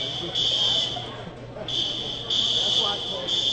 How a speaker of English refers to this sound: Still waiting on this fire alarm that you can hear in the background. At Cannon McMillan High School. One thing to note, no one has left the gymnasium, so clearly not concerned, but just trying to figure out what has tripped